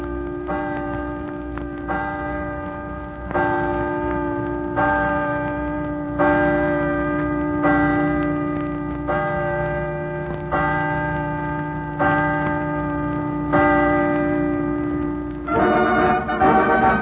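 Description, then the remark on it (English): Chimes on the University of Washington campus in Seattle ring 12 o'clock noon, pealing out across Lake Washington in a steady sequence of bright bell strikes, about one every second or so, each tone lingering and overlapping the next, with a rich clustered peal at the end. “I'd get a wonderful thrill if the chimes on the campus of the University of Washington at Seattle would ring 12 o'clock noon”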